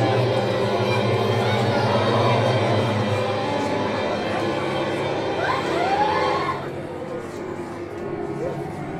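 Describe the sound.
Police sirens wail with rising and falling tones through a dense, noisy urban din, the sweeping pitch briefly standing out before the scene quiets slightly, with murmuring voices underneath.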